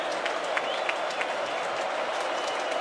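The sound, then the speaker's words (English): The home crowd at a Maryland Terrapins college football game cheers in a loud, continuous roar before a third down, with scattered claps and sharp shouts popping out of the steady wall of noise throughout. “And this crowd trying to help the home team.”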